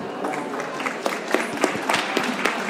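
An audience applauds steadily, a dense wash of many hands clapping with a few sharper individual claps standing out, sustained at an even level throughout.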